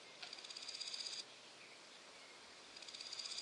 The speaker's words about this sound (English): Grasshoppers rub.